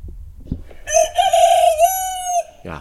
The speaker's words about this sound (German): Also, Hast du was gehört? diesen Vogel kenne ich sehr gut. Das ist mein Hahn.